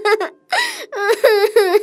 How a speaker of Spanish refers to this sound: Seguí llorando y te vas a hacer pegar otra vez.